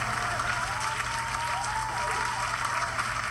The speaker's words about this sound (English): Wait. My applause.